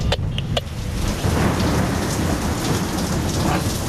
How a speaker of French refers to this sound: Soudain, un éclair déchire le ciel. Une tempête frappe l'Hermione et l'équipage.